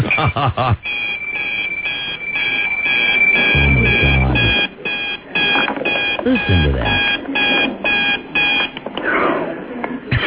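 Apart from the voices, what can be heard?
alarm beeping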